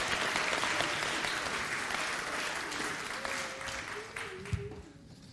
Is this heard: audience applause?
yes